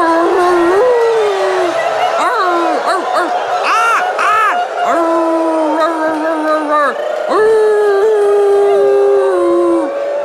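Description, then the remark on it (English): Several voices howl like wolves in long, wavering, overlapping tones, broken by short rising yips and woof-like barks, a loud group imitation of animal calls that carries on for the whole stretch. “And to seal the deal of our willingness to cooperate with the guiding ingenuity of all the beautiful animals and floras that we like, let us just howl and woof and yip and caw-caw our availability to dance.”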